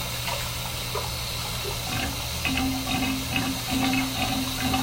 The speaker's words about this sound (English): Yeah, I've been in the bathtub for about an hour. Yeah, I probably should drain the bathtub. It's getting pretty full.